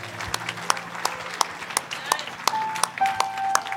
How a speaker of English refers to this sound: We should be celebrating that like we do this. So can you clap and celebrate for those that received Jesus today?